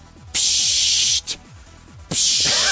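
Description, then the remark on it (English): Bursts of an aerosol spray can hissing: a long steady spray, a quick short puff, then another sustained spray, loud with no talking. “Get out the aerosol cans.”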